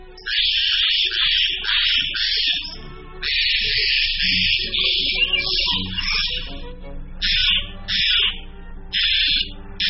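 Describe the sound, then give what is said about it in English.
Harsh, raspy Steller's jay calls repeat in loud, grating bursts, several rapid squawks in a row with short gaps between, clear with no talking. “The blue jay's vocalizations are sometimes described as harsh and strident, but they're downright musical compared to these calls of the Steller's jay.”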